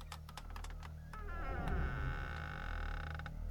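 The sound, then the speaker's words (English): A door in a cabin in Wisconsin creaks slowly open, its drawn-out groaning hinge rising and wavering over a low hum, preceded by a few faint clicks from the latch. “I slowly opened the door.”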